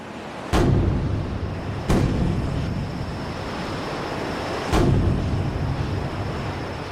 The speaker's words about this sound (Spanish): Son 3 cañonazos. ¡Han capturado el barco!